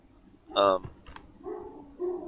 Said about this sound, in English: I hear a dog.